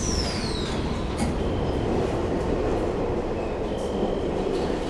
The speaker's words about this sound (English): 20 minutes after they started, the train rolled into her station.